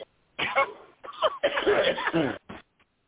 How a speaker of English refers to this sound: Oh, no wonder it's an empty coughing fit.